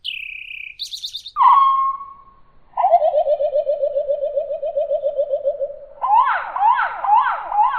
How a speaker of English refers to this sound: But sound-wise, the most interesting birds I found on my property were the eastern towhee, which sometimes uses amplitude modulation in the early swooping part of its song.